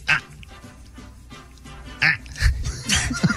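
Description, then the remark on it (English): A person lets out a series of short, guttural grunts, scattered irregularly and growing more frequent toward the end, fairly loud with a rough, throaty, almost animal-like quality. “A lot of grunts.”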